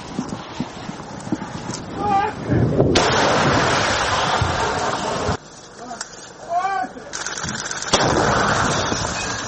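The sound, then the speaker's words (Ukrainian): Loud, booming bursts of noise surge in and cut off abruptly as an artillery gun near the front line fires after a sudden order to open fire, with voices and rustling activity heard between the blasts. “Гармата перебувала на чергуванні, раптово отримала наказ на відкриття вогню.”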